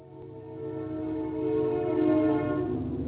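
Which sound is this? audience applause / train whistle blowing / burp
train whistle blowing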